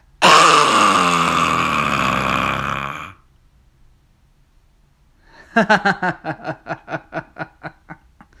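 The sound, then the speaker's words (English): A voice imitates phlegm with a loud, raspy, gurgling throat-clearing noise held for about three seconds. After a short silence comes a run of rapid, pulsing snickers that gradually fade. “And most definitely, I make phlegm noises like”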